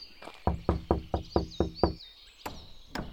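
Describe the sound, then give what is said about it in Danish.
Seven quick, evenly spaced knocks rap firmly on a back door, followed by two slower, separate knocks, while faint birds chirp in the background. “Og banker på hans bagdør.”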